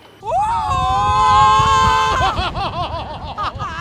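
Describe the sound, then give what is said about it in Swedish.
Two old people, a man and a woman, let out a long, loud scream together on a roller coaster on a cold, windy day, then it breaks into choppy, breathless shrieks and laughter over a steady low rumble. “Jag menar, att höra två gamla, en gubbe och en käring som skriker i en berg- och dalbana.”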